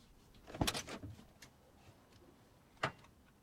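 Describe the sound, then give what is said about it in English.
A man gets out of a car: the car door opens with a clunk and some rustling movement, then slams shut about two seconds later; a quiet scene with no talking. “He gets out of the car.”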